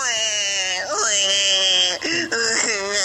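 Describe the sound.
A recording of a baby crying plays through a phone speaker: a loud, continuous, high-pitched wail with swooping pitch, broken by two quick catches of breath near the end.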